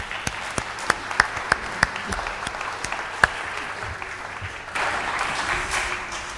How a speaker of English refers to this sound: Let's give her a very big clap.